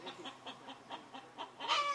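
Chickens on a farm cluck in a steady run of short, repeated calls about four per second, ending in a louder, drawn-out squawk from one hen; no voices.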